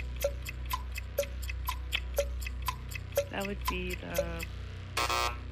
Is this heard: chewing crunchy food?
no